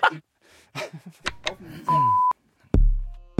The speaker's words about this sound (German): Kleiner Alarm mal vorne dran. Kleiner Klacker.